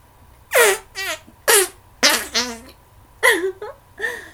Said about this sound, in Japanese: あら、今誰かいたような気がしていたけど、おならで飛んでいったみたいね。